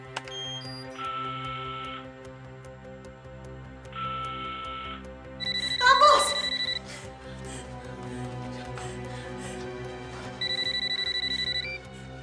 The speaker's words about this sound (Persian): تلفن خونشون داره زنگ میخوره.